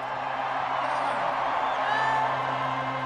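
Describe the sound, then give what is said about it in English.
A crowd in Chicago during the Wrigley seventh-inning stretch cheers and shouts in a dense, steady roar, with a few whoops and yells rising briefly above the wash of noise for about three seconds. “I want to hear a real crazy crowd start singing with me.”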